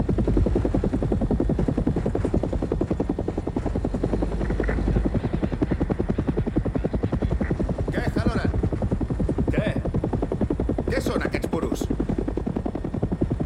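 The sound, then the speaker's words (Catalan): A twin-rotor helicopter flies over a forest. Its rotors thud in a steady, fast, low-pitched pulse throughout, loud and continuous, with a few brief higher-pitched bursts of sound cutting in near the end. “Més tard, un helicòpter de dos rotors vola sobre el bosc.”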